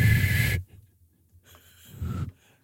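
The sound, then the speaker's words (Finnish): A breathy, airy burst of blowing with a thin, wavering tone, then a pause and a second softer puff of air carrying a faint, barely-there whistle pitch. “No, vihellä vähän.”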